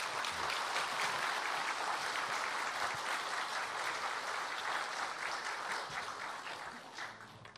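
Sustained applause from the Nampo Church audience welcoming a pastor who comes out to give a lecture, steady and full for several seconds before easing off slightly toward the end, with no voices standing out.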